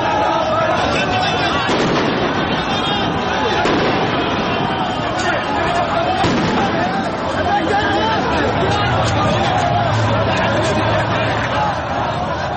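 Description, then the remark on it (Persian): Sharp bangs of gunfire from Iraqi security forces crack repeatedly over a dense, loud crowd of protesters in Iraq on a Friday morning, with shouting and a steady roar of voices throughout, the shots scattered and irregular, fired to disperse the protesters. “بنا به گزارش الجزیره، نیروهای امنیتی عراق صبح روز جمعه برای متفرق کردن معترضان اقدام به شلیک گلوله و پرتاب گاز اشکاور کردند.”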